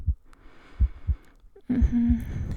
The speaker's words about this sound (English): Could you hear my heartbeat? How it quickened for a moment?